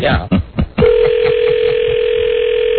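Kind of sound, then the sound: signal or alarm, telephone dial tone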